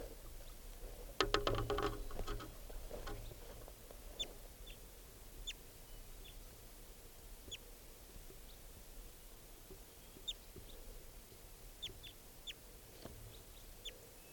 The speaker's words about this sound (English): recording that wild bird.